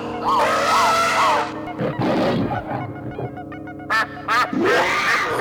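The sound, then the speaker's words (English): A loud hawk screech sound effect: harsh, nasal cries repeating in a quick series, then a couple of sharp, piercing bursts and one last drawn-out screech, with no talking. “You know, Hawk sound. Hawking sound.”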